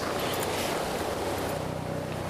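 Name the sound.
helicopter flying overhead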